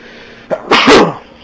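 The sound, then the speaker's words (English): A single sharp, loud sneeze with a short intake breath just before the explosive burst; no talking around it. “Bless you.”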